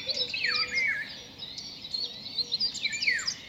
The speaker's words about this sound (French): Entendez-vous cet oiseau, ce chant de la forêt tropicale? C'est le loriot d'Europe, un passereau assez grand au plumage exotique. Les ailes noires se découpent parfaitement sur sa robe jaune canarie.